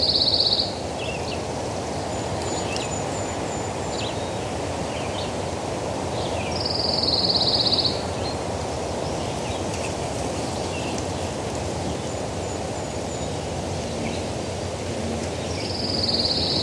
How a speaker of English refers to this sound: You are listening to a pine warbler on the shore of Rocky Lake in Whiting, Maine.